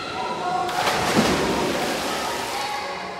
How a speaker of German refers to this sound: Borstel probiert mindestens zum fünften Mal die Röhre, unter der Kinder im Schwimmbad zu hören sind.